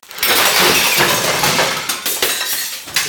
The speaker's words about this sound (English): Kate, I asked you to help me, not to break the plates.